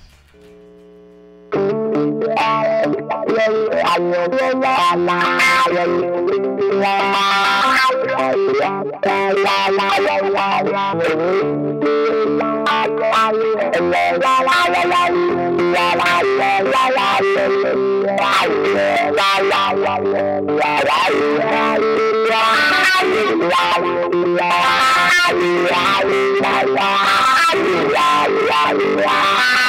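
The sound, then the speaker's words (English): Three to four electric guitar chords played through a wah-wah pedal and an echo box, strummed loudly and continuously for about half a minute after a brief quiet start, with sweeping, swelling tones and a lingering effect-heavy wash. “And now I will play 3 to 4 chords for you with a wah-wah pedal and an echo box.”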